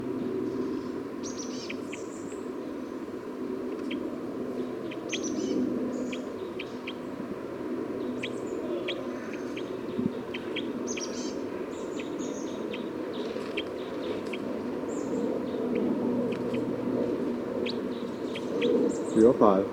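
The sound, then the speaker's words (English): Short, high-pitched chirps from a recording of bird 305 repeat irregularly across the whole stretch, fairly soft, over a constant low rumbling background noise and a faint steady hum. “Recording bird 305 again.”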